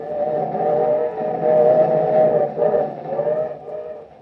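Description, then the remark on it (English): A steady, loud rumble of a moving freight car carrying two riders west on the rails, with droning metallic tones and a rushing, windy hiss that swells and dips slightly throughout, no voices. “In a noisy, windy freight car, Joe and Rusty head west.”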